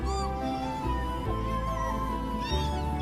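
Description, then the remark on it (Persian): A cat meows over about three seconds, with rising, bending cries near the start and again near the end over a steady, continuous low drone. No one speaks. “اولین خونه که من پر از گربه بود.”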